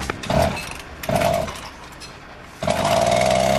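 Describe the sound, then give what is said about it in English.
A small chainsaw engine with a wheel attached runs while its pulling power is tested. It revs up in three loud surges with a buzzing, high-pitched whine, dropping back to a rough idle between bursts. No one speaks. “attached a wheel to the cruiser's chainsaw engine.”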